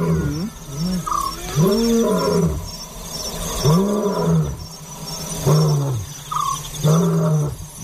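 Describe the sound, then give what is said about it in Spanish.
A lion roars in a series of deep, booming, rumbling calls, several heavy grunting roars repeating at a steady rhythm, loud, with no voices. “Por ejemplo, hay unas que dicen que el león tiene altavoz propio, que parece que retumba el solo, ¿no?”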